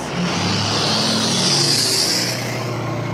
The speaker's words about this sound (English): It's interesting because human conversation is kind of known to be around 60 decibels. Here, that car that just went by was at like 73, which means we have to talk a little louder to be able to hear each other, right